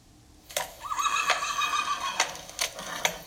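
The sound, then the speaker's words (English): A horse whinnies with a long, wavering high-pitched neigh, accompanied by a few sharp clip-clop clicks, heard clearly with no talking. “It's a high quality horse sound effect you got there.”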